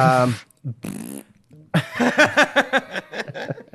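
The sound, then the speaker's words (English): Someone blows loud fart noises with their mouth: two short blasts, a pause, then a long sputtering run of rapid flapping pulses that slowly trails off. “This is my fart joke.”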